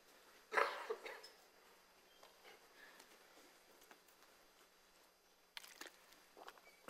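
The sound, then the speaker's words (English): A brief, soft sip of water near the start, then a quiet pause with faint mouth and swallowing noises and a short rustle toward the end. No one speaks. “I probably need another sip of water, just a second.”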